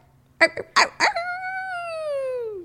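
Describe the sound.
A voice imitates a dog: three quick, sharp barks followed by a long, drawn-out howl that slowly slides downward in pitch, fairly loud, with no other talking.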